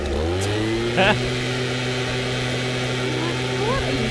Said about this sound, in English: What is that? Is that? That's a leaf blower.